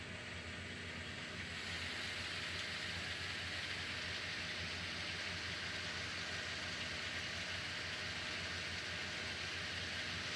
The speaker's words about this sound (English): So I've kept the car running because I'm only going for a short trip, so I did want the engine to warm up, you know, properly.